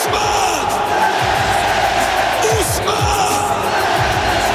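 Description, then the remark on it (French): A stadium crowd applauds the 22 players, the heroes of Budapest, as they enter the pitch one by one, the loudest applause for the number 10, in a loud, unbroken wash of clapping and cheering, with scattered shouts and whoops rising and falling within the roar throughout. “Mais la bataille de l'applaudimètre, elle est remportée par le numéro 10.”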